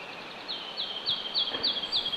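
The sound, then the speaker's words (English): A ruby-crowned kinglet, a very small songbird, sings a fast, high-pitched series of repeated chirpy notes, close and clear, in a steady rhythm over quiet outdoor background with no talking. “That's ruby-crowned kinglet. Really small. Here it comes.”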